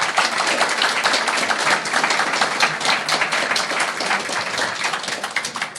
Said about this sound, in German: Danke an alle Wichtel. Ein Applaus dafür auch bitte.